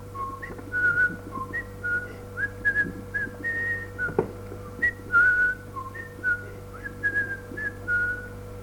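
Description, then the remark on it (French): A person whistles a lilting tune alone, a string of short, bright melodic phrases that rise and fall at a steady, carefree pace, over a faint constant hum in the background. “Il noue le sac, le jette sur son épaule et s'en va en sifflant.”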